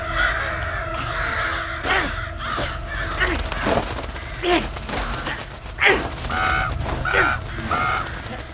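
Dozens of crows caw harshly and repeatedly while pecking at a man lying on the ground, overlapping calls coming in bursts over a dense, noisy background of rustling and flapping, agitated.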